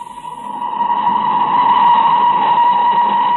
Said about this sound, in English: Oh, I shall have to be moving. That's the boat train.